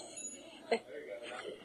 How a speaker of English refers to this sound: I'm going to actually maybe take this opportunity to introduce another guest that we have, the bicycle bell.